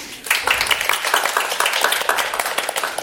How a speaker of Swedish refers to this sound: och idag är vi på Forum för levande historia i Stockholm och spelar in inför publik. Välkommen, en applåd för publiken.